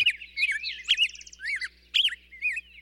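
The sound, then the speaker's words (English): Birds sing in a lively, continuous stream of warbling, high-pitched phrases, with quick trills and chirps overlapping at moderate volume and no voices present. “But Clinton says there are lots of ways to help, from switching to quieter electric vehicles to using lawn equipment outside of morning hours when birds are singing the most.”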